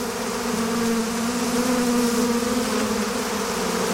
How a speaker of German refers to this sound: Ein Bienengesummel. Ich habe hier einen Bienenschwarm für euch.